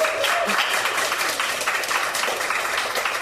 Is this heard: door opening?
no